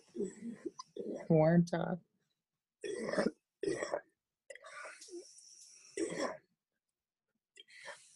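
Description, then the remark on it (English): A person coughs and clears their throat in several short bursts, separated by brief pauses, with some breathy vocal sounds mixed in. “Weren't authentic and genuine, similar to like me coughing right now.”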